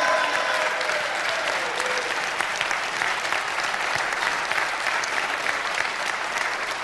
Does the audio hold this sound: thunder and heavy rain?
no